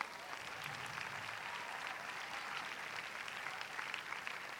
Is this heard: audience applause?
yes